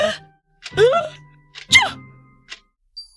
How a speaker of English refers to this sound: In desperation, she picked up some of the spilled pepper and sprinkled it under Grandma's nose. There was an agonizing pause. And then her grandmother sneezed loudly and began to breathe again.